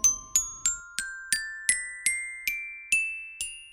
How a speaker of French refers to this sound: Un métallophone.